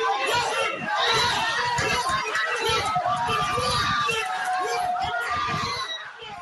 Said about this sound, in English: Almost all popular spots in Yaoundé, the economic hub Douala, and several towns and villages were full with cheering crowds that turned out to watch Ngannou, their Tyson Fury, who has held the World Boxing Council WBC heavyweight title since 2020.